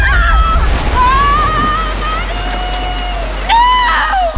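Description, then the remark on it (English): A loud, continuous roar of a flooding river that has burst its banks and taken the bridge with it, steady, while raised voices call out over the churning torrent. “Oh my God, the river! Burst our banks and taken the bridge with it!”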